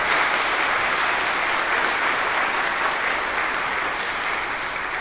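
An audience applauds steadily, a dense wash of many hands clapping at once, loud and sustained for several seconds with no pauses and no voices standing out.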